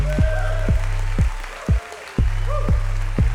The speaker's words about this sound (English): And then the crowd goes even wilder. They can't believe what they've just seen.